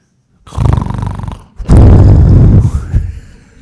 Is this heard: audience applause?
no